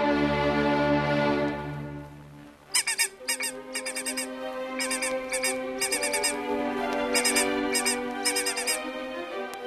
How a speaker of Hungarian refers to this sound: Hát ez meg mi a csoda? Honnan került a magnó szalagra a füttyögés? Lehet, hogy ez is készülékhiba? Nem, maguktól nem keletkezhetnek ilyen hangok a készülékben.